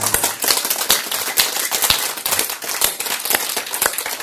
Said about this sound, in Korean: 이 박수가 하나님을 두려워하는 거에 일부입니다.